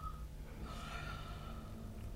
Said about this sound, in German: Hörst du, wie sie atmet?